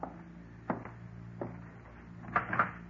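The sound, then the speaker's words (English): A door being opened for someone at the door: a handful of sharp wooden clicks and knocks from the latch and frame, spaced irregularly over a quiet, low background hum. “Ain't you going to open the door?”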